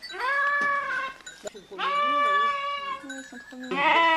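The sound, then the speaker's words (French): Goats and sheep bleat loudly on a farm that keeps 40 ewes, several long wavering calls overlapping one after another, with a brief pause midway before more bleating resumes. “Il y a 40 brebis.”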